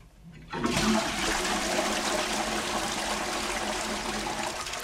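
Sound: toilet flushing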